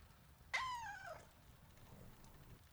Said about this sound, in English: Oh, there you are. My goodness, what a beautiful cat.